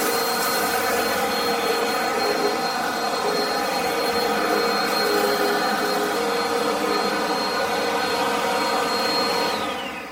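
A vacuum cleaner runs steadily on a rug the whole time, a loud whining motor drone with strong high-pitched harmonic tones and a constant airy rush, with no speech over it.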